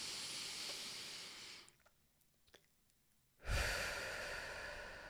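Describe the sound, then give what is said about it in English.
A long, airy breath drawn in through the nose, followed by a brief silent pause and then a louder, rushing breath out through the mouth. No talking. “So taking deep breaths in through your nose.”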